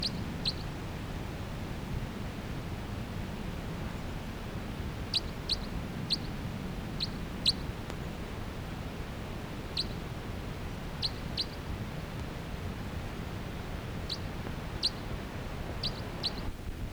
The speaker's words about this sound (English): And I lost the pair for a while, but now I've located them. They're in a tall ponderosa pine that has a lot of cones on it. And they're occasionally giving flight calls as they flutter about the canopy of that tree.